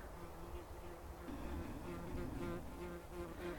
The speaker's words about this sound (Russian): Вот, тут прилетела у нас одна такая пчела, довольно настойчивая. Она почему-то хочет у меня все залезть куда-то не туда, куда положено пчелам лазить.